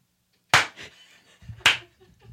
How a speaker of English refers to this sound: Darling, that robotic arm is clapping wonderfully. Can you hear it from here? Yeah, it's really loud.